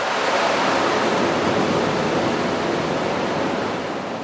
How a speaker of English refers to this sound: And the generators roar. Each produces nearly 400,000 horsepower.